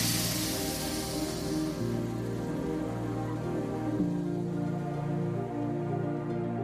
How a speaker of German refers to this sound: Der Zug rollt langsam im Bahnhof Pinhão ein. Die Dampflok stößt einen erschöpfenden Seufzer aus.